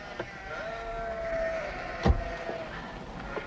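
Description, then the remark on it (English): One of Brian's sheep, among a few that got out, lets out a long, wavering bleat while being herded in through a gate, followed by a sharp knock and a few fainter rustles, with no talking. “are these Brian's sheep?”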